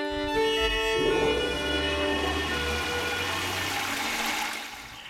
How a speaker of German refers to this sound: Und Wasserfall stimmt in gewisser Weise auch. Das ist nämlich eine Klospülung.